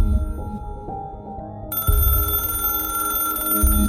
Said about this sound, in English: Union contracts had expired at midnight on October 1, 1975, and Mrs. Graham went to bed that night ready to continue negotiations in the morning. Then the phone rang at 4:45 a.m.